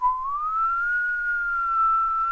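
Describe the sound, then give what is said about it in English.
People whistle a steady tone to imitate the wind during a story told aloud. The tone slides slightly upward and holds for a couple of seconds, clear, with a faint low rumble beneath and no talking. “So the farmer, he climbed into bed and he covered his head so he couldn't hear the whistling of the wind.”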